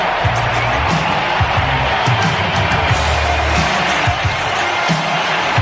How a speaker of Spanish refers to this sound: Esta es la ovación de la pista de Rafael Nadal, del jardín de su casa, el tenista español, que acaba de hacer acto de presencia en esta pista central de Roland Garros, antes de que lo haga también Novak Djokovic